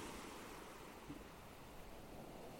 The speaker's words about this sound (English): These waves were lapping the shingle at Deal at a particularly high tide in the blustery late afternoon of July the 29th, 2021.